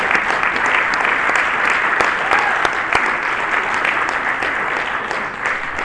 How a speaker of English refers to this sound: So let's have another round of applause for the Grannies.